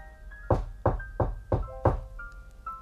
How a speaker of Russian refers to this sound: Тогда он легонько постучал костяшками пальцев.